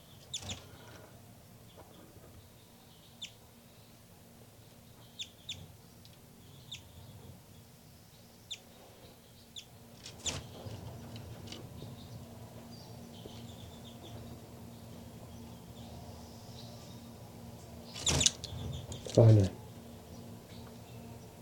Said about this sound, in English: Baby bird's calling on the nest on the side here.